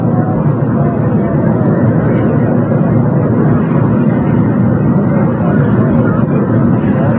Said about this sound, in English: The helicopter bearing new President Lyndon Johnson is about to take off.